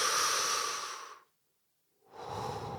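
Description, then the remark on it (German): A deep, airy breath drawn in, lasting about a second, then a brief silence before another breathy rush of air. No talking. “Wir lehnen uns zurück, wir atmen tief ein.”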